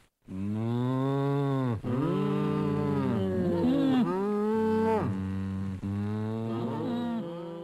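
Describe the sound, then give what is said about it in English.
Several cows moo one after another in long, loud, drawn-out calls that overlap slightly, with brief gaps between them and no talking. “Yes, I think we've established those are cows.”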